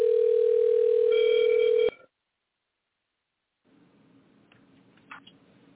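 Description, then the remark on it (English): A loud, steady telephone dial tone from a studio phone hums for about two seconds, with dialing tones layered over its end as someone is called into the show, then cuts off abruptly into silence before faint line hiss and a few soft clicks. “Pardon me, I'm calling somebody into the show.”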